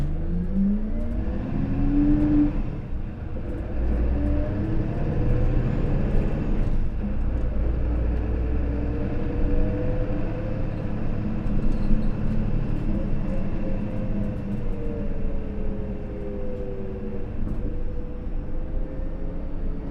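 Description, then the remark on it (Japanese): A bus engine rumbles and revs as the bus pulls away from a stop, its pitch climbing through gear changes before settling into a steady, heavy drone with no talking. “発車します。”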